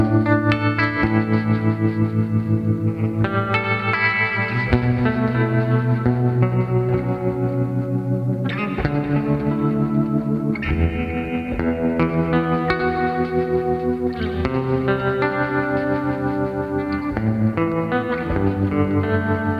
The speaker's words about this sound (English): There's a GFI Specular Tempus reverb.